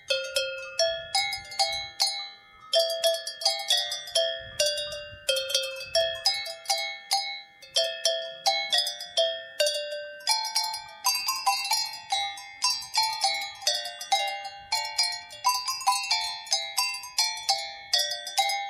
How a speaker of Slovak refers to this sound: To sú zvonce na zvieratá? Na ovce, to sú plechové zvonce, hej. To sa používajú na ovce tieto menšie, alebo šuláre na ovce a potom na kravy také väčšie.